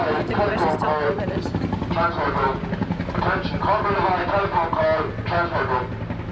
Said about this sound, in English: And she'll be listening to things like that all the time as well. Yes, all the time. All the time. You will soon get used to helicopters, and you will never want to see or hear a helicopter by the time you get home.